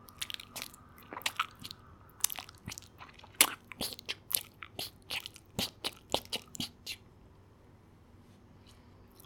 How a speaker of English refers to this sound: Whenever she is tired or needs to charge her batteries, she throws some of the leaves in her mouth and starts chewing with exaggerated jaw movements.